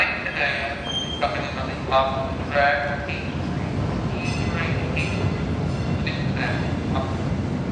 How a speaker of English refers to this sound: To bring you an example of what these overhead announcements sound like, I stood around on subway platform after subway platform, holding my microphone in the air and looking like an absolute doofus. Finally, I received this message from on high.